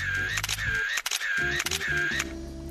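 A string of sharp camera shutter clicks, some in quick pairs, snaps out irregularly over a steady, wavering tonal background as applied-arts students photograph staff at work in a studio.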